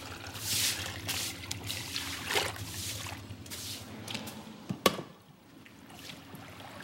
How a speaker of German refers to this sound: Seit Jahren kämpfe ich gegen den Schmutz dieses einzigen Zimmers. Ich lasse Eimer volllaufen, schwenke die Lappen aus, gieße das schmutzige Wasser in den Abfluss.